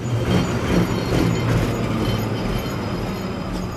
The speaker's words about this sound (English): As Moscow woke up this morning, it didn't feel as if much had changed in Russia. The number 38 tram was trundling along as normal, transporting bleary-eyed commuters.